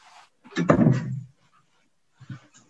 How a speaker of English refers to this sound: I'm just going to shut the door.